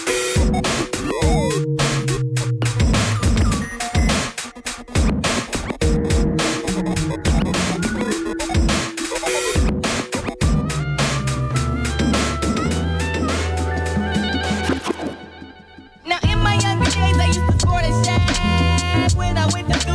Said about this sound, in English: In this track, I experiment with distortion as the concept. Let's listen.